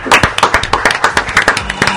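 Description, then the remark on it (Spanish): Applause from what sounds like a small group for a person who guessed correctly, a steady, brisk run of sharp claps that keeps going throughout without a break. Nobody speaks. “Suena la música y sabemos que del otro lado está el acertado que se merece un aplauso.”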